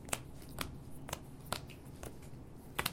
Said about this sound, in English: And now what we're going to do in drafting is we are going to, I'm going to give us each half this deck. We're going to end up picking a total of 6 special cards. Okay. Dealing these out. I just shuffled these up, right?